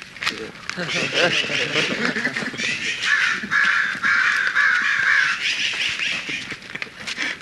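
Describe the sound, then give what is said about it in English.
Crows caw repeatedly, harsh calls overlapping almost nonstop from a group of birds, with indistinct human voices mixed in underneath. “We have the crows here.”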